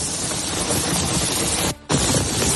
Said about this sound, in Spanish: Este sonido del barrio barcelonés de Poblenou, donde las calles quedaron inundadas de granizo.